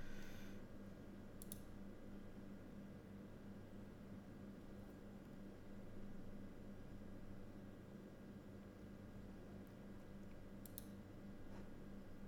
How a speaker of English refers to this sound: So if you can hear me clicking, I'm just clicking through some photos just to see what impressions come up.